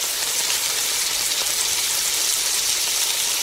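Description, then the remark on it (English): Steady, dense sizzling and crackling of a frying pan sound effect, loud, with a constant hiss of tiny pops and no voices. “Boy, that crackling has gotten a lot more intense.”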